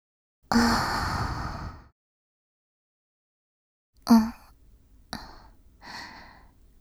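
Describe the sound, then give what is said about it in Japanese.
A long breath is blown softly into the ear, followed after a pause by a few shorter, airy puffs and exhales right up against the microphone, with no talking. “お耳に吐息がかかるのがお好きですか？もっといたしましょうか？”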